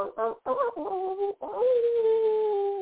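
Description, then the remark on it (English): A person vocally imitates a hound dog, giving a few short yelping barks and then a long drawn-out howl, loud with no other sounds. “That was my hound dog impression.”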